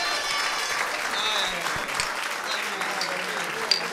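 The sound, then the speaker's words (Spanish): Steady applause from an audience for a joke, a dense crackle of many hands clapping at an even loudness for several seconds with no break. “Ay, un aplauso para ese chiste, ha estado genial, güey.”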